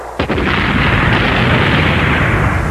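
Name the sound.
large cannon firing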